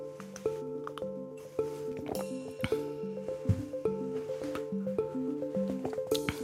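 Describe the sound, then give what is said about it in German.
Wet sipping and slurping noises of people drinking water from glasses in a taste test to pick out tap water, short and irregular, playing over a steady melodic music bed with no talking. “Das heißt, wir trinken jetzt los und stellen dann immer das Glas nach vorne, wo wir glauben, es ist das Leitungswasser, okay?”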